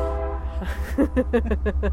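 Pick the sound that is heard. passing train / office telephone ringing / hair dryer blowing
passing train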